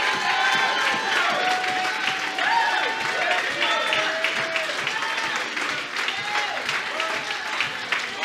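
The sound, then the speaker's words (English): A church audience claps and cheers to give God praise, dense rapid applause filling the whole stretch with voices shouting and whooping over it, loud and sustained without pause. “And on the count of three, I want you to clap your hands and give God a praise.”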